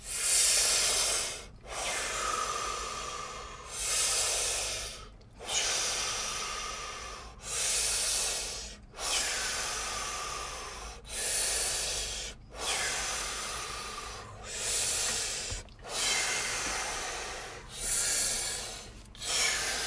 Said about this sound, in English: we're going to just take 10 deep breaths in before getting started to facilitate the oxygen and reduce any of our stress or anything that we're holding on to and just generally get feeling good. So on the count of three, breathe with us. So 1, 2, 3.